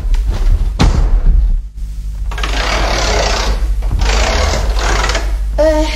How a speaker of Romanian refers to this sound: Atunci să trag obloanele și să închid ușa.